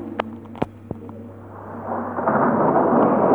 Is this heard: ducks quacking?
no